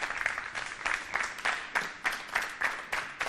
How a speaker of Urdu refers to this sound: میں درخواست کرتا ہوں ٹیم اے سے کہ وہ تشریف لائیں یہاں پر اور دیکھیں کہ کون سا ان کی وائف نے بنایا ہے ان میں سے. تالیوں سے استقبال کیجیے گا.